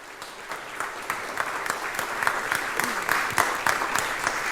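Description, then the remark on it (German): An audience applauds a speaker being introduced before her talk, many hands clapping at once in a dense, continuous patter with scattered sharper claps standing out, moderately loud throughout. “Also einen großen Applaus für die Referentin und viel Spaß beim Vortrag.”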